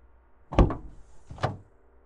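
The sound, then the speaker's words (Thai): A car door unlocking, heard from the back seat of the car in cold weather: two sharp mechanical clunks nearly a second apart, the first heavier, against a quiet background with no voices. “แต่แล้วผมก็ต้องตกใจจนสะดุ้งลุกขึ้นนั่งเมื่อได้ยินเสียงประตูรถถูกปลดล็อกผมนึกว่าพ่อหรือแม่มารับผมกลับเข้าบ้านแล้ว”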